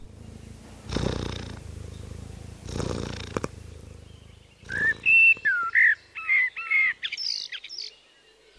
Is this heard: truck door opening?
no